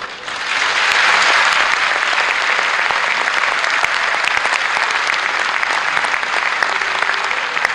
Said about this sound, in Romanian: Da? Nu vă grăbiți să aplaudați.